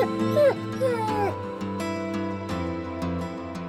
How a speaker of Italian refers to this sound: Ululo. Voglio far sentire la mia solitudine.